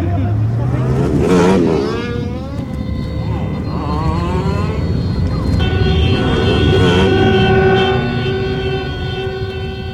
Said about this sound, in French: Voilà, après cette brève évocation sonore de la rue et de ses voitures